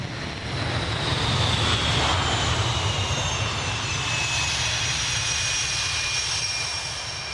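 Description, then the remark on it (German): A loud, steady jet engine roar fills the whole stretch, a broad rumbling wash with a high whine sliding slowly downward, as a Swedish Gripen fighter jet on a test flight powers up and takes off down the runway. “Sogenannte Planespotter, Flugzeugfans mit riesigen Teleobjektiven an den Fotoapparaten, hat es einen Pistenrand für das beste Bild, wenn der Gripen losdonnert.”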